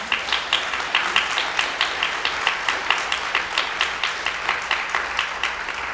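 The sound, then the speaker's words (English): An audience breaks into steady applause for the organist, many hands clapping in a dense, continuous patter that holds at an even level throughout, with no speech over it. “We have a fantastic organist. That's an applause line.”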